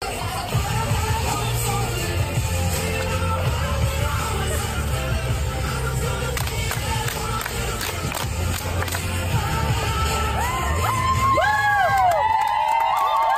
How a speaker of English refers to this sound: Okay, put aside that slightly cringeworthy cheer, Joel.